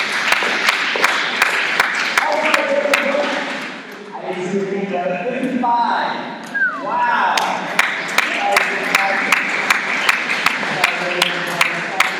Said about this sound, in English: Wow. That's incredible. Can you guys give a round of applause?